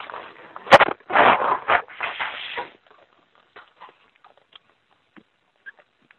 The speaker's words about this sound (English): But in fact, I'm going to clear my throat while I wait a minute, if you'll excuse me.